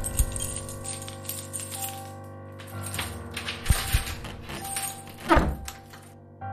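A key rattles and scrapes in a door lock, with light metallic clinks and a few sharp mechanical clacks, then a louder thunk as the bolt turns and the door is unlocked. No one speaks.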